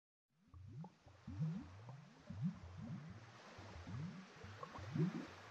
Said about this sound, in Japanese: 波の音がする。静かで暖かい命の生まれた場所。